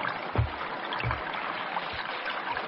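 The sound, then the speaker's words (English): Steady rushing of a flowing river, with three low, heavy sloshes spaced roughly a second apart as someone wades in through the water to tickle fish out of a patch of reeds. No voices. “We'll show them, shall we? In you go. What? Yes, in the river.”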